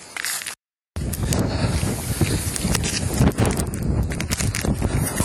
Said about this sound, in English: All of a sudden, it got really windy. I don't know if... And it was getting dangerous. There's some branches that just fell up in front of me. I saw them fall in the wind.